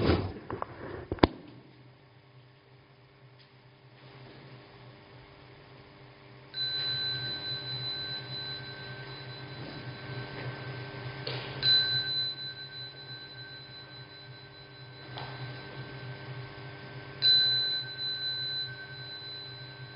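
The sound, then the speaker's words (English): A meditation bell is struck once, then its clear tone lingers and resonates for many seconds, slowly shimmering over a low background hum with no one speaking. “I ring the bell again.”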